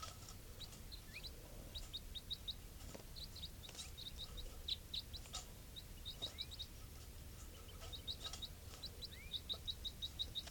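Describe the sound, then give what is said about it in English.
Soft calls of a wild bird, type 4 calls, repeat as short, high-pitched chirps in quick bursts over a low steady background hum, with no one speaking. “Sounds like type 4.”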